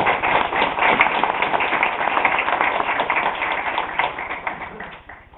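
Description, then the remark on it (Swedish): A full seminar audience breaks into sustained applause for the organisers from Terracom, a dense crackle of many hands clapping at a steady level for several seconds before it begins to thin out and fade at the end. “De ska väl hösta in, tycker jag, också den applåden redan nu.”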